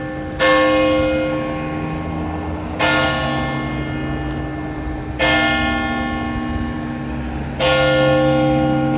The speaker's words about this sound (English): And we are sitting on the steps of St. Casimir's on Clark and Bremen Streets. And we're waiting for the old bells to start ringing since it's almost 5 o'clock. Let's see, 4:59. They should be going off any second now. There they are.